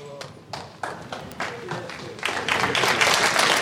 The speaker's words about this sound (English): Praise you, Jesus. Come on, let's clap the Lord. Don't clap the message.